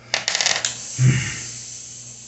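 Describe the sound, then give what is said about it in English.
A short run of crisp, crackling sizzle bursts from tissue being burned during a procedure, fairly loud, followed by a dull low thump and a faint lingering hiss. No one speaks. “Ah, more sizzle.”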